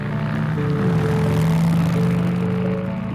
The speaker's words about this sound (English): A motorcycle ride in the country, a chance to get away from it all.